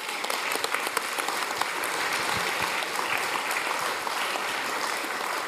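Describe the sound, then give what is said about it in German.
A crowd claps steadily and fairly loudly for several seconds at a church baptism service, the dense patter of many hands without any speech. “Haben einen Applaus verdient.”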